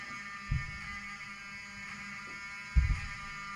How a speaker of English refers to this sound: Open the door. I want them to hear the fire alarm. Open the door. I want people to hear this live to the 16 million people listening.